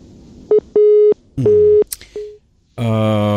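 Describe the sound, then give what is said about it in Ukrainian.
A telephone busy signal, after a radio call-in listener's line dropped over a bad connection, sounds in a few steady, evenly spaced beeps on a single pitch, fairly loud and clear, before a burst of harmonically rich voice or line noise cuts in at the end. “Поганий зв'язок. Поганий зв'язок чомусь зникли.”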